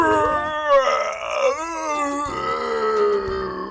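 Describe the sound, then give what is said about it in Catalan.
A person voices a drawn-out, angry lion roar for a lion trapped in a hunters' net, a loud, groaning growl of rage and sorrow that rises and falls in pitch and wavers for several seconds, sounding furious and anguished. “Ai, al capdavall, el lleó, desesperat, va fer un rugit de ràbia i de pena.”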